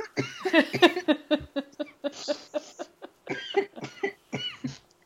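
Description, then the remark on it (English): A loud run of rapid coughing brought on by laughing too hard, with a few laughing gasps mixed in, the bursts coming in clusters over several seconds before trailing off. “Sometimes when I laugh too hard, I start coughing.”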